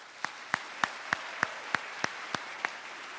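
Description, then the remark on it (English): Slow, steady hand claps, about nine sharp smacks spaced roughly a third of a second apart over a faint hiss. It sounds like one pair of hands rather than a crowd, with no talking. “So if you'll indulge me, can we have a round of applause for our friends at KEXP?”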